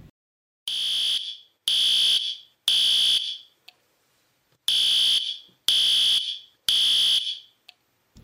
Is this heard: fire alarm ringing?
yes